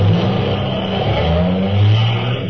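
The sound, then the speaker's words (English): A brand new Cadillac sedan's engine revs loudly and steadily on a busy New Orleans street corner, its deep rumbling hum rising and dipping in pitch over a couple of seconds, with no voices over it. “Hey, some hunk of automobile.”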